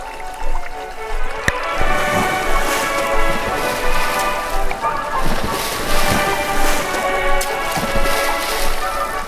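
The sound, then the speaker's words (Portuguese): Water jets of a fountain with clear water splash and patter steadily throughout, a dense rushing spray with faint tonal music running underneath and a sharp knock near the start. “Este é um chafariz vivo, com água cristalina.”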